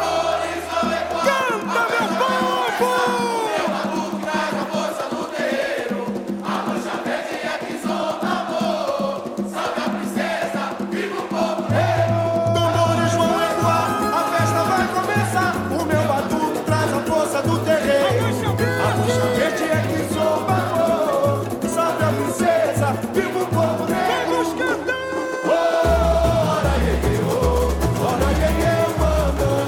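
A 2019 samba school song, with a crowd-like chorus of voices singing over driving percussion and a pulsing bass. It plays loud and unbroken, and the bass pattern shifts a couple of times.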